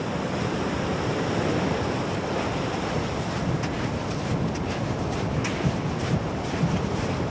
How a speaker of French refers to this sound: Ah, la mer, elle monte là, oui. Et les vagues ? Les vagues, pour le moment, non, elles doivent monter que cette nuit. Là, elles sont assez stables. On est sur des hauteurs a priori de 2,60 m là au large. Ça bouge pas trop.